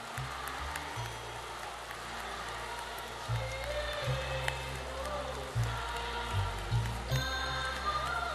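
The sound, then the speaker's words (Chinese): An audience at Lu Junhong's world Buddhist friends meeting applauds him steadily for about eight seconds, a dense wash of many hands clapping at even loudness, with a low sustained musical tone droning underneath. “我们再次用最热烈的掌声感恩大慈大悲的卢军宏台长。”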